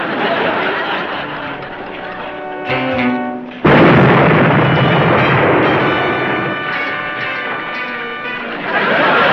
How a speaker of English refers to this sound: Well, I gotta hand it to you, Smart. That's a bomb if I ever heard one. Yes, and it's not a little bomb. I can tell by the ticking. It's a great big bomb. Get rid of it!